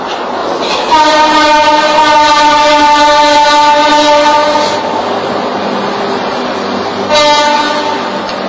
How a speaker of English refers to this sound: Are we going to wait for the train to go by? This is the curse, man. The train is a curse.